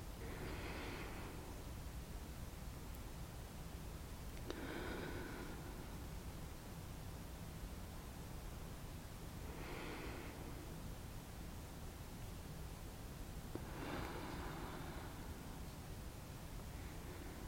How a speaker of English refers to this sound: Can you feel my camp breath on your neck? Try to breathe with me. In. And out. Focus on your breathing.